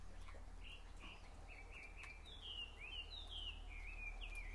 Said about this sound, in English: I was hoping you can hear that, the bird in the distance.